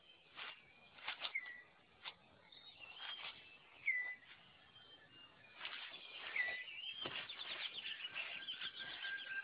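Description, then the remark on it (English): Irregular bursts of rustling and wing flutter as a male six-plumed bird of paradise tidies his display area in the forest, with thin chirps and whistled calls over a soft forest backdrop, moderately quiet. “That leaves the male six-plumed bird of paradise with time to concentrate on other matters, like tidying up his display area.”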